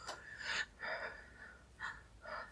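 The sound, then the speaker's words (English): A series of four sharp, breathy gasps, fairly quiet, spaced unevenly with brief pauses between them; no talking. “I can make it, even though it makes me gasp, even though it makes my eyes water”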